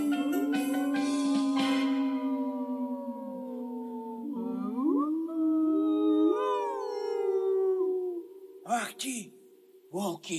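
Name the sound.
wolves howling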